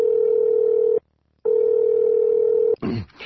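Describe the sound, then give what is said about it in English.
An old cell phone rings with two long, steady electronic tones split by a short pause, loud, then a brief scratchy burst of noise cuts in. “The cell phone whose ring sounds like a desperate plea to be put out of its misery.”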